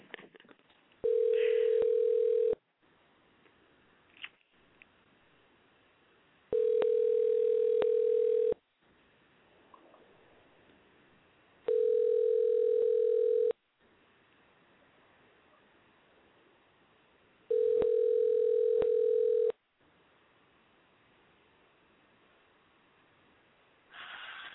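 A telephone ringback tone, after a phone number is dialed to call a guest on the Urban Tech Fair on Master Grill Radio, repeats four times, each steady, mid-pitched burst lasting about two seconds with longer gaps between, over a faint background hiss and occasional soft clicks.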